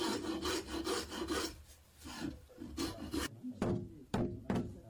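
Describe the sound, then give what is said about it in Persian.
Steady back-and-forth rasping of a file on wood as a wooden horse saddle is smoothed by hand: a quick run of rhythmic strokes followed by a few slower, sharper scrapes, fairly loud with no voices. “صیقل‌کاری و تزیین زین اسب زمانگیر است”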